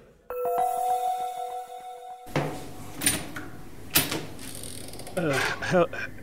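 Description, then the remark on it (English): An unlocked apartment door opens with a drawn-out, ticking creak of its hinges, then a click of the latch, followed by rustling, shuffling movement and a few soft thumps. “while heading up the stairs to the apartment, and right up until we found the door to his apartment unlocked.”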